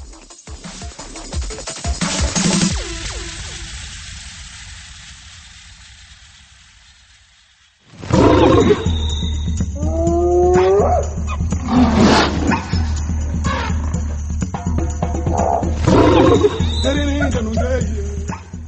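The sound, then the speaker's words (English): A lion roars and growls loudly in deep, rumbling bursts that start abruptly after a fading, quieter opening, then continue without pause. “Uganda's lion population has fallen by 30% in the last 10 years.”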